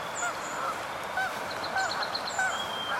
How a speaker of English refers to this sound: I could not resist and drove over an hour with binoculars and telescope and camera to see this goose grazing on the grass with a flock of common Canada geese.